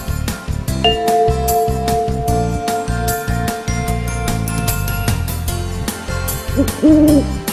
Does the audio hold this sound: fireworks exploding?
no